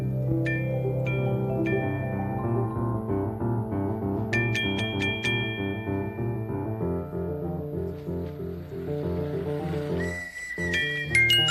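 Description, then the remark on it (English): A toy trolley passes in front of the castle in the Neighborhood of Make-Believe with bright, high whistle toots, short repeated tones and a longer rising one, over steady, gentle instrumental music throughout. No one speaks. “So let's make believe more about that now as the trolley goes in front of the castle in the neighborhood of make believe.”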